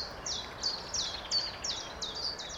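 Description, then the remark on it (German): A common chiffchaff sings a steady series of high, clipped notes alternating slightly in pitch, about seven in quick regular rhythm, clear over a soft outdoor background hush. “Hier ruft der Zilpzelp.”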